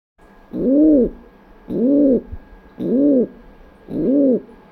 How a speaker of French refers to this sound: Cet oiseau, par exemple, le pigeon biset, est très commun en milieu urbain. Mais s'il pullule si bien dans nos villes, c'est qu'elle ressemble à son milieu naturel, les falaises.